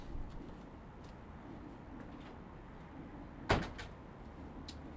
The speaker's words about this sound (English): I'm going to shut the door.